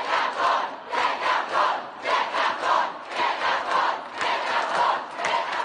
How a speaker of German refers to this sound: Get Gav Gun, schmeißt Gav raus, rufen hunderte SchülerInnen im August letzten Jahres auf den Straßen Londons. Sie fordern den Rücktritt von Bildungsminister Gavin Williamson und demonstrieren gegen die Regierung.